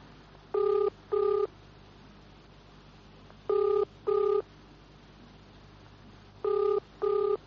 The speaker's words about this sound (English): I'm ringing the garage.